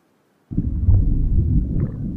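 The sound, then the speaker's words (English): After half a second of silence, a deep, muffled rumble kicks in abruptly and holds steady: a sound pitched down two octaves, like a slowed record, with much of its high frequencies removed. “And then they removed a lot of the high frequencies and pitched it down another octave.”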